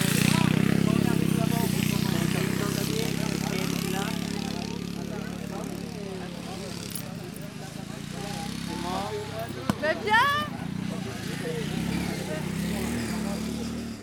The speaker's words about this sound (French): Est-ce que vous connaissiez déjà les courses de tracteurs tondeuses ?